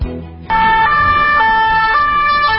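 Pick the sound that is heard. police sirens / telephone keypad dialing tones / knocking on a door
police sirens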